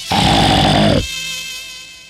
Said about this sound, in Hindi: पीलू बाघ की आवाज और पास से आने लगी